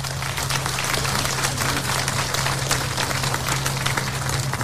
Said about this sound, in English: And I think that deserves a round of applause.